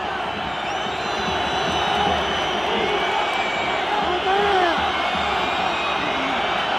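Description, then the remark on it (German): A huge crowd at Camp Nou during a Barcelona vs Espanyol match roars steadily, shrill whistles piercing the din in a constant jeering protest because a Barça player lies on the ground near the Espanyol corner flag and Espanyol did not play the ball out, with wavering high-pitched tones over the dense, loud wall of voices. “Der Grund fürs Pfeifkonzert ist aber natürlich, dass ein Barca-Spieler in Nähe der Espanyol-Eckfahne auf dem Boden liegt.”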